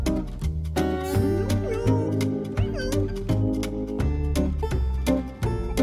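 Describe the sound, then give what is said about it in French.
A single cat meow, with a rising-then-falling pitch, sounds briefly in the middle of loud, bouncy music with a steady bass beat and sung melody. “Moi, j'ai gobé le chat.”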